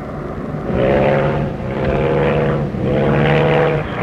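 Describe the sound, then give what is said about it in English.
A propeller airplane engine drones steadily, its pitch and loudness surging and dipping in three uneven pulses like a sputtering motor. No voices are heard. “Engine trouble.”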